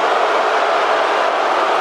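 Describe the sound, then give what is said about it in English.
A loud crowd boos in a dense, unbroken roar that fills the whole moment, many voices blending into one steady wall of disapproval with no pauses or individual words. “They're booing so loud.”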